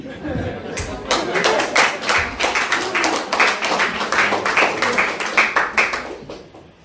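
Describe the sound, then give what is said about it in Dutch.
An audience breaks into applause for the people who contributed to a gift, many hands clapping in a dense, steady patter that holds for several seconds before tapering off near the end. “Dit applaus is voor jullie bedoeld.”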